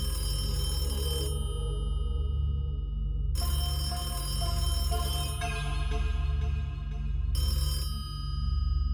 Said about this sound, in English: Not wanting to push my luck, I turned to leave and was just about at the door when it happened. Phone rang.